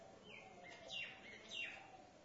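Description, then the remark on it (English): Birds chirping outdoors while eating rice scattered on rocks, two bright descending chirps standing out over a steady hiss of background noise, fairly clear, with no voices. “Seems to be more for the birds up here, because when we had the yajna, I threw the rice from here instead of down there.”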